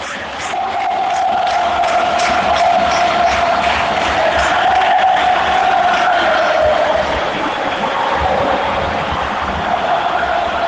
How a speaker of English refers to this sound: Nerves haven't taken over in the stadium yet, but they're like cheering and whistling every time the orange shirts get the ball.